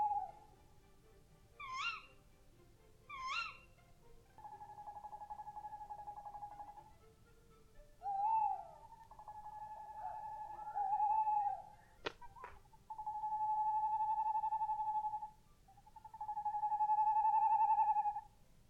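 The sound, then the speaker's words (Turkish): A tawny owl gives a series of long, wavering hoots at night, several drawn-out calls in a row. Two brief high chirps come early, and a low steady hum runs underneath. “Hadi gelin şimdi onların gece ötüşlerine kulak verelim.”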